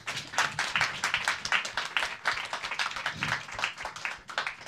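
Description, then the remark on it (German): A burst of applause, many hands clapping in a dense, steady patter that holds at a fairly even level for several seconds, with no one speaking over it. “Jawohl, Applaus dafür.”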